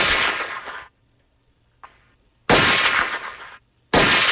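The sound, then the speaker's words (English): Three loud, sharp gunshots ring out with long decaying tails, separated by pauses, plus a brief fainter pop between the first two, with no talking. “Those are gunshots.”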